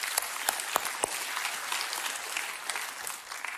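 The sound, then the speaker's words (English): An audience, including the Cypress campus, applauding the Oaks project, a dense, steady patter of many hands clapping with a few sharper claps standing out, continuing throughout with no one speaking. “Yeah, let's cheer for that. Cypress, cheer as well.”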